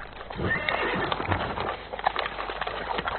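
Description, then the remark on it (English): A ridden horse whinnies loudly while its hooves clip-clop in a steady, uneven rhythm, filling a short burst of continuous animal noise with no voices present. “It looks like your horse is hungry”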